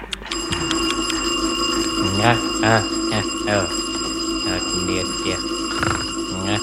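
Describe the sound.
An alarm clock in a house rings loudly and continuously for several seconds at 6 a.m., a steady metallic jangle that never pauses, while a voice mumbles and groans intermittently over it.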